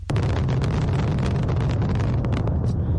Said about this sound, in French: Des feux d'artifice tirés au stade national de Pékin lors du coup d'envoi de ces 24e Jeux d'hiver.